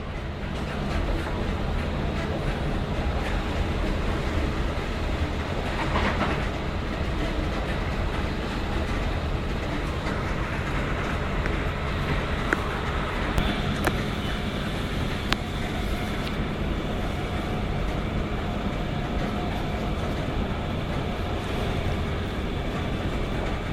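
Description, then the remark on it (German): Steady rumble inside a moving train carriage, a dense low roar of wheels and running gear with faint rhythmic clatter and occasional brief squeaks, continuous for the whole stretch with no talking. “So viel mal zur Soundkulisse hier in dem Wagen.”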